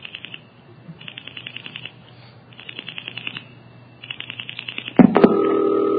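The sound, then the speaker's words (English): A telephone exchange repeater relays the dial pulses of the digits nine, nine, nine, nine as quick, crisp clicking trains, heard in four separate bursts over a faint hum, then a sharp loud click gives way to a steady electronic tone. “Now here's the repeater repeating those pulses.”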